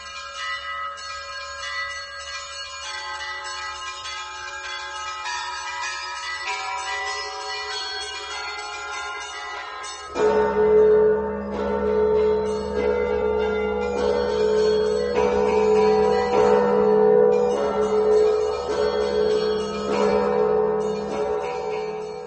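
Church bells ring in a rich, layered peal with long overlapping tones; partway through, heavier bells strike in and the clangor grows fuller and louder. No voices are heard.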